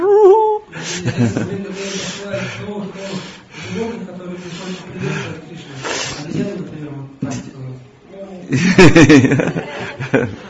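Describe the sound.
A man's voice imitates the monkeys greeting Krishna in the forest: a run of chattering, hooting vocal bursts with sliding pitch, growing louder and more excited into a burst of high, rapid chatter near the end.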